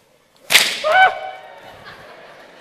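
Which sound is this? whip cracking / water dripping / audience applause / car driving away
whip cracking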